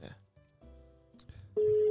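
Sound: telephone call dialing out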